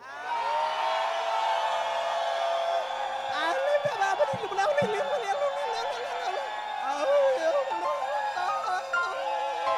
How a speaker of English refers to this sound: On the count of three, we're gonna scream like it's face shots every turn. You ready for that? One, two, three.